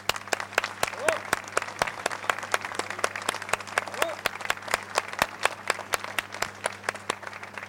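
An audience claps steadily, dense overlapping hand claps forming a continuous burst of applause at moderate volume, with a low steady hum underneath.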